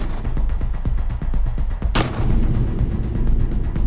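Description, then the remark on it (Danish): A rapid burst of gunfire, 10-15 shots fired from a scooter through a passage where police officers stand, sharp shots in quick irregular succession, capped by one louder blast and a heavy rumbling tail. Loud, with no voices. “10-15 skud, der fyrer gennem passagen, hvor betjentene og Neon står.”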